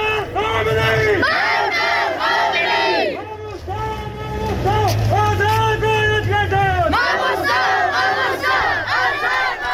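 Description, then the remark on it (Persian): A large crowd at a Friday protest in Sanandaj against increased pressure on Sunni clerics, demanding the release of two Sunni clerics, chants loudly in unison, voices rising and falling in repeated rhythmic phrases with a brief dip before the chant surges back, steady low rumble underneath. “در سنندج علیه تشدید فشارها بر روحانیان اهل سنت تظاهراتی در روز جمعه برگزار شد و معترضان خواستار آزادی 2 ماموستای اهل سنت شدند.”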